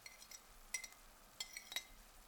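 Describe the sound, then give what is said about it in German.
A knife scrapes and taps against a plate, pushing garlic off the plate into a pan in two quick bursts of light, ringing clinks. Quiet, with no voices. “Ich schiebe den Knoblauch mit dem Messer von dem Teller in die Pfanne.”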